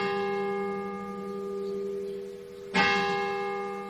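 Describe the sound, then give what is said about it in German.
The bell of a nearly 1000-year-old church tower in Vrestedt, Lower Saxony, Germany, rings nonstop in the middle of the night after lightning struck the tower during a thunderstorm: a long, sustained resonant hum, then a fresh loud strike near the end, its bright overtones swelling again. No voices. “Die Glocke des Kirchturms hörte nämlich mitten in der Nacht nicht mehr auf zu läuten.”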